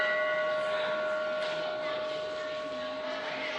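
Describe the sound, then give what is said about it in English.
A temple bell, rung a single time during a lecture, hums after the strike, its bright metallic tone and shimmering overtones lingering steadily for several seconds at a fairly even volume, with no voices over it. “People ring the bell when they enter the temple because it gives them peace.”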